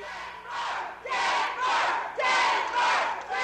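Right after a vote on Saturday night, a large crowd shouts and chants "Denver" in unison, the roar rising and falling in loud, rhythmic swells of the short repeated word, about five surges in a few seconds.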